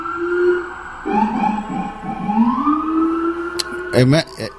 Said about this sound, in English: Why is that? What is that? A fucking ambulance or a police? I saw an ambulance and a police.